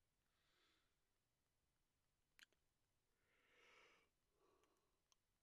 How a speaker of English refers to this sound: I'm sorry for yawning.